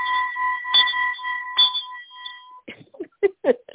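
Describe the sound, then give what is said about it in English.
A hand bell rings clearly a few times, its bright metallic tone sustaining and slowly fading before a person starts talking. “That's your bell? I get to ring it.”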